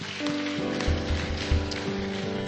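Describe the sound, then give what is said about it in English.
An audience at a church worship service claps together, a dense patter of many hands over sustained organ-like chords and a few deep thumping beats, at a steady moderate loudness. “Go ahead, clap your hands, lift your voice.”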